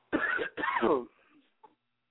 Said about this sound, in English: Caller, you just coughed.